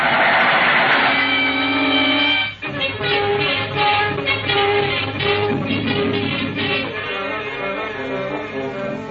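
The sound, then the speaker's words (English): A train rushes past, loud and continuous, with a steady rhythmic clatter of wheels over the rails and a sustained whistle-like tone at the start. “Here comes the train now.”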